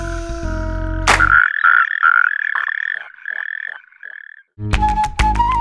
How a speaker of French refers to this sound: Rainette méridionale.